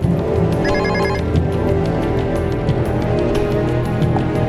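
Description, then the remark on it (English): A short electronic phone message alert chirps as a quick series of high beeps near the start as a man pulls out his phone, set against a thick, steady wash of background music and ambience. “He pulls out his phone.”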